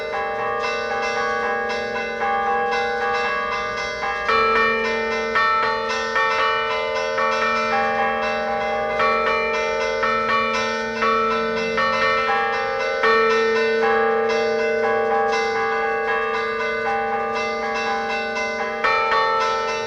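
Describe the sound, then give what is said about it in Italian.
Church bells ring continuously and loudly, with overlapping strikes layering into a rich, sustained wash of metallic tones that keeps pulsing throughout, with no voices. “Quindi quella della novena di Natale, del suono delle campane, era un pretesto anche per poi avere un'attività conviviale.”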